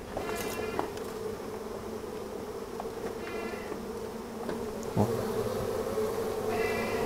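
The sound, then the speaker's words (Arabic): A dense, steady hum of many honeybees buzzing together inside a hive of about 30 combs, each packed with thousands of bees, continuous and fairly loud throughout, with a few faint clicks and knocks in the background. “طيب كم نحلة في القرص؟ متروس متروس ألاف. متروس هي 30 جوا جوا. ايوه هي 30 داخل. سبحان الله. هي 30. شوف الصوت.”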